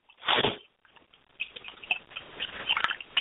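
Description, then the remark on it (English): A brief rustling burst, then stirring as a spoon scrapes and lightly clinks inside a glass, dissolving sugar into rum and coconut water. Irregular gritty scraping throughout, with no talking. “And now I want to stir this up and dissolve that sugar into the rum and coconut water concoction.”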